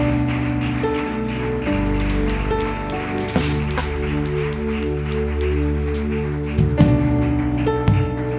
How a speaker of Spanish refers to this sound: Dale nuevamente ese aplauso a Jesús. Si ese aplauso es para Jesús, yo creo que podemos hacerlo mejor. Derrámale tu corazón en esas palmas, mi hermano.